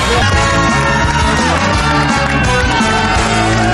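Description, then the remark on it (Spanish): A studio audience gives a loud, sustained burst of cheering and yelling, dense and continuous for several seconds, with whoops rising over a steady roar of the crowd. “El canal uruguayo y aplausos, por favor.”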